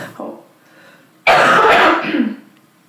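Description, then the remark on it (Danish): A soft throat clear is followed by a loud, harsh burst of coughing and rasping throat clearing lasting about a second before trailing off. “Jeg hoster lige, du skal gøre.”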